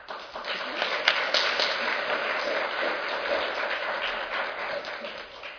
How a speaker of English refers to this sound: Please, another round of applause for our presenter. She's really engaging.